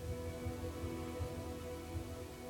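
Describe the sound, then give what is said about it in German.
Steady rain falls on soft, muddy ground where refugees are camped in Idomeni, after days of rain, a continuous even hiss with faint low patters underneath, with no voices. “Seit Tagen regnet es in Idomeni. Die Flüchtlinge und das Wenige, was sie noch besitzen, versinken im Schlamm.”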